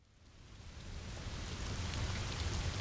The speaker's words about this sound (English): The next day, I had hiked for a few hours when it started to rain. It was the kind of rain that is steady, fills your boots, and makes you either access your hardcore hiker or set up your tent in the closest clearing and open a good book.